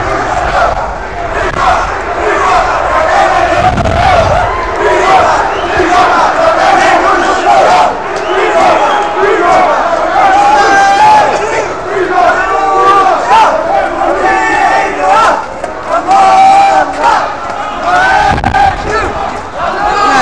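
A loud crowd of demonstrators, who have just left a building and walk arm in arm in a block into the Roemer-Visserstraat, chants slogans in unison, many voices shouting together in a steady rhythm that carries on for the full twenty seconds without letting up.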